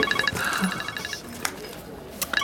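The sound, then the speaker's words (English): A mobile phone rings with a rapid, chirpy electronic trill that repeats in quick pulses, pauses briefly, then starts up again. It sounds fairly faint. “Your phone.”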